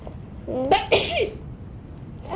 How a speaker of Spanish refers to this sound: Espera, que mamá va a estornudar.